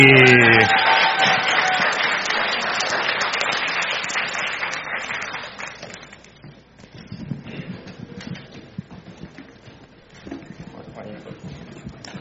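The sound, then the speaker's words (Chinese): A crowd at the Chinese Christian Church of Columbia bursts into applause, dense clapping with a few cheers at first, then the clapping thins and fades over several seconds, leaving scattered claps and murmuring voices. “掌声鼓励。”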